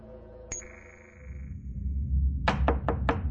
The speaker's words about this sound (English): When Master Dan Powell knocks on her door and disturbs her from sleep, Lannery knows that something is wrong.